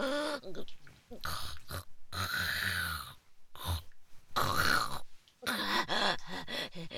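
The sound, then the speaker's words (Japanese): A woman's voice makes a series of loud, nasal snorting grunts in uneven bursts with brief pauses, imitating a pig. “変な鼻音になっちゃってる。豚みたいな下品な鳴き声。”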